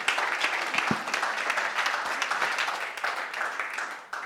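Steady applause from a crowd, a dense patter of many hands clapping at once, holding fairly even in loudness before dipping briefly near the end.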